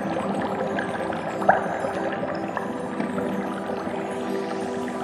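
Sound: ocean waves and wind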